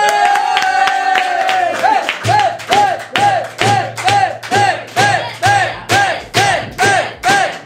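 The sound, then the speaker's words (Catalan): An audience applauds to welcome guest Bet, former Operació Triunfo contestant, in a steady, loud rhythm, about two claps per second, each beat paired with a short rising-and-falling tonal whoop. A sustained tone plays briefly before the clapping begins. “Rebem un fort aplaudiment a la Bet!”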